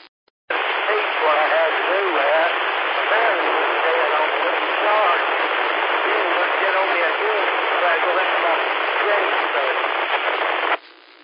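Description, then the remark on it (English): A weak amateur radio transmission during an on-air net, buried in loud, steady static hiss, with a faint, unintelligible voice barely audible beneath the noise; it switches on abruptly, runs about ten seconds, then cuts off. “it's a little bit too far down in the night white noise.”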